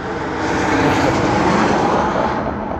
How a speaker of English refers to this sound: A jet just flew over me.